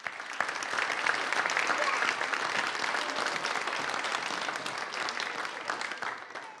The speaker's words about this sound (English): But it's been very, very good, and we thank you very, very much. And I think we all should give them a round of applause.